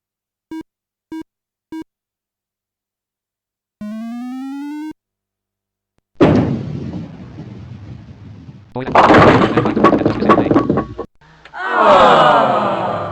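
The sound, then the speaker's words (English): Three quick electronic beeps and a rising synthetic tone give way to a low rolling rumble that builds into a loud, sustained clatter as a bowling ball, the first of frame 6, hits one lane left of the mark and knocks down 9 pins, leaving the 4 pin standing, followed by more noisy rumbling. “Your ball hit one lane to the left of the mark. 9 pins were knocked down with your first ball.”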